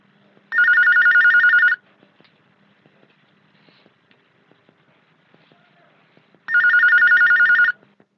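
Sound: telephone ringing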